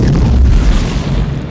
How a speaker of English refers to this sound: And he drives the pickup truck off the cliff in what I think is a great looking car crash. Yeah. Phil, he might be okay. And then it explodes.